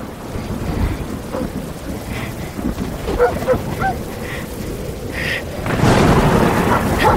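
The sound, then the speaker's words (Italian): Steady rain hisses throughout with low rumbles in a forest, while a few faint dog barks and yelps surface briefly in the middle; the downpour swells louder near the end. “Cani, pioggia.”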